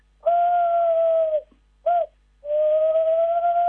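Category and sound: bird, tawny owl call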